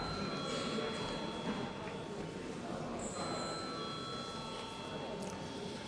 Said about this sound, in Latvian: Vai deputātiem ir iebildumi? Deputāti iebilst, lūdzu zvanu.